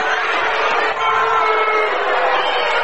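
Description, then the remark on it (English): A basketball crowd voices loud displeasure after the ball is knocked out of bounds and awarded to the Spartans, a dense, sustained roar of jeering voices that holds steady for a few seconds with no break or clear speech on top. “Rushi crowd does not like it.”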